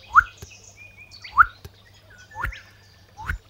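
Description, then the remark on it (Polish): Someone whistles an imitation of a spotted crake: four short, sharp rising whistles about a second apart, each a whip-like note with a clicky onset, fairly loud against a quiet background. “Ale kropiatka jest łatwa do rozpoznania.”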